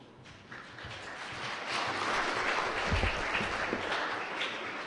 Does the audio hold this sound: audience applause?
yes